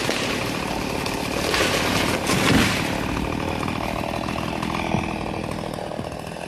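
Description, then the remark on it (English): A chainsaw runs steadily, its buzzing engine droning loudly throughout with a brief surge in intensity midway as it bites into wood. “We know that we are losing our forests, the green lungs of our only home, faster than ever to chainsaws, trucks, and insatiable greed.”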